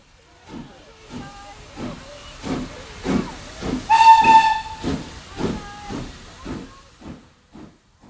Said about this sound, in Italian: Il giorno dopo, la mattina presto, Vincent prende il treno che in un'ora lo porta da Auvers a Parigi, dove lo aspettano Theo e la moglie Jo.